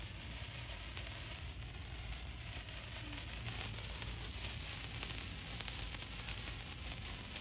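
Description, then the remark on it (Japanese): Steady, dense crackling and fizzing of a lit, fairly long sparkler firework, a continuous hiss peppered with tiny rapid pops, with no talking. “パチパチしてます。”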